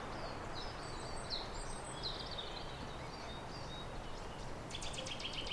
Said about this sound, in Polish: Jest strzyżyk? Ja teraz troszkę ciszej, bo właśnie zaczął śpiewać strzyżyk.